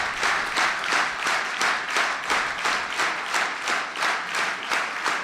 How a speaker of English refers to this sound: You know, you clap for yourselves when you do that. You clap for yourselves because you gave me that gift.